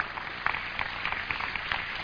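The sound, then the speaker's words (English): An audience claps steadily during a church service sermon, a dense wash of many hands with scattered sharper claps standing out. Nobody talks over it, and it sounds moderately loud. “Go ahead, clap right there.”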